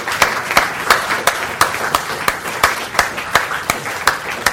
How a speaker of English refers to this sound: All right, could all the speakers that are in the room still, could you stand up? We had a couple people who went early because they had to go to the airport. So stand up, speakers. I'll give you a round of applause.